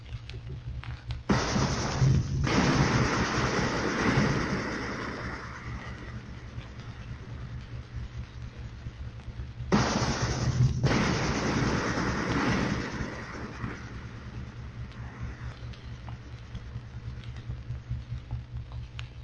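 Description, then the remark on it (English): Two underwater depth charge explosions picked up on a hydrophone with JP-1 gear, at a range of 300 yards from a submarine, each a sudden broad boom that swells into a long, rumbling, crackling wash before fading, spaced several seconds apart over a steady low hum. “Depth charges exploding underwater sound different over JP-1 gear from what you might expect.”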